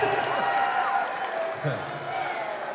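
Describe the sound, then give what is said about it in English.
An audience at a show roars with overlapping shouts and cheers, a steady dense wash of many voices yelling at once, with brief scattered screams rising above the din. “We're sitting backstage here doing nothing while you guys are screaming.”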